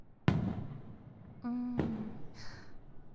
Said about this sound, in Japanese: あら、花火が始まったようですね。